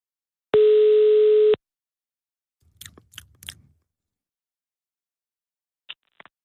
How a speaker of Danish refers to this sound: Og det er en ejer, som jeg forhåbentlig ringer op til nu.